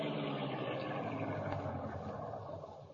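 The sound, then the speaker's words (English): A car, the Black Beauty, rumbles steadily, easing down as it pulls up to the back of an office building in a back alley and comes to a stop, settling into a low idle that fades slightly at the end. No one speaks. “Pull close to the building and stop.”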